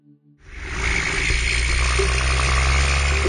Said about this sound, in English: The trundle of logging trucks vibrates through the water. You can feel it in your long whiskers.